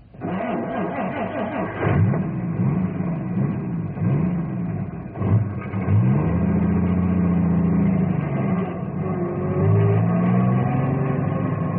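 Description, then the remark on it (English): A truck engine revs hard several times as the truck is moved, its pitch climbing and dropping in uneven surges, staying loud throughout with no voices. “Ice strong enough for cars, but not for truck.”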